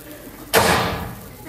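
A single loud door slam with a sharp crack on impact and a brief rumbling decay that fades over about a second. No voices accompany it.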